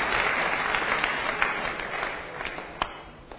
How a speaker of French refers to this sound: Sous vos applaudissements, c'est parti. Au Capi Service, en direct de l'ISP, Mbandaka.